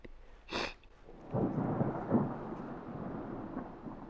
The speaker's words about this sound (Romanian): Ce-a fost asta? Un tunet.